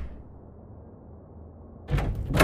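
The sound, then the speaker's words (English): The front door of a flat is slammed shut, with two loud, sharp bangs close together at the end following a stretch of quiet, low rumble. “They march out of the front door and slam it behind them.”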